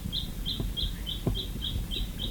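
bird, woodpecker call

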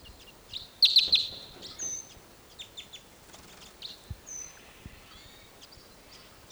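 bird, wild birds chirping

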